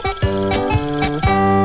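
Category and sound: signal or alarm, telephone ringing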